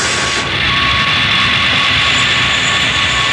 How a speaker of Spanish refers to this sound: El pequeño jet se desliza rápidamente a través del hangar rumbo a la salida, al tiempo que los guardias desde tierra disparan.